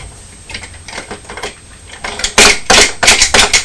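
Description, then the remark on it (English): A small plastic toy train is pushed along a high chair tray and onto a book, clattering and banging repeatedly, a series of quick knocks and scrapes that grow louder and more rapid toward the end. “You're pushing the truck along the high chair table and then onto your book, aren't you?”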